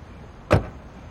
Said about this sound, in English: He gets out of his car.